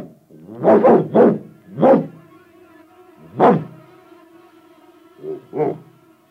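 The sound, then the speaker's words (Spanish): A dog barks about six times in short, irregular bursts, a quick pair and single barks spaced apart, clear, with a faint steady tone underneath and no talking. “El perro alzó la cabeza para mirar a todas partes.”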